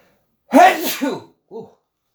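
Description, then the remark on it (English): A loud sneeze bursts out with a sharp breathy onset and trailing exhale, followed a moment later by a short, quieter vocal sound, like a sniff or murmur. “Sneezing here, I don't know why.”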